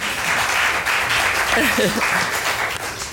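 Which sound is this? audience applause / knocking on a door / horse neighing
audience applause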